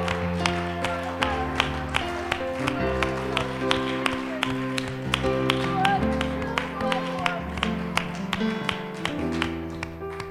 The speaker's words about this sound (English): You clap your hands, the Lord, He's worthy of praise. Hallelujah, Jesus.